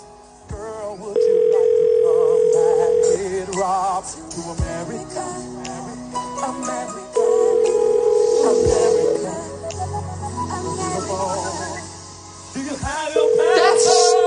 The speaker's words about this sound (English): Is this the phone ringing at the bar as they're setting up?